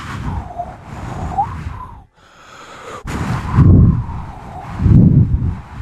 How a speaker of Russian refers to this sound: Вы прослушали запись западного ветра со скоростью 1 метр в секунду дующего.